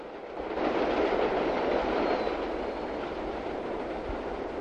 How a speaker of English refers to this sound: An elevated train passes by overhead as Murphy continues his long walk.